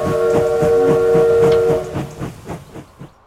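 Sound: train running on rails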